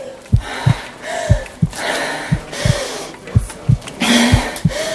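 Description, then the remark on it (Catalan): Loud, rapid panting breaths rising and falling in a steady rhythm alongside regular low thumps, as an elite water polo athlete runs with heart-monitoring electrodes attached. “Respira fort.”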